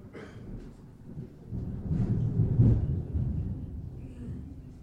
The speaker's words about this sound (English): Now everybody's awake and you can hear the rest of the sermon. Thought Dan was going to leave us. I think he thought he had left us. Storms.